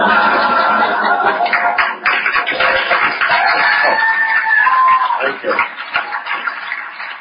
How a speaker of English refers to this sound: Booing into applause, a very rare occurrence in show business